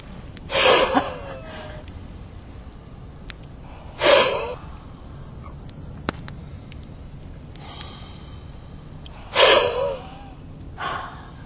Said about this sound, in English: We want you to do four deep breaths. And we want you to breathe in through your nose. Remember to bring it through the top of your head. And then out your mouth with some noise.